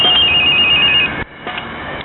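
A telephone rings with a bright electronic trill, loud, then cuts off abruptly partway through, leaving a quieter hiss with a couple of faint clicks; it is a call coming in from abroad.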